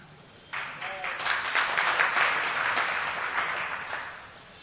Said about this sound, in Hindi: flat राज पंडित flat हो गए, और रानी ताली बजाने लगी हैं